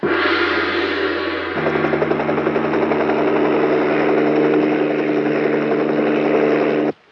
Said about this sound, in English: The chopper's just landed.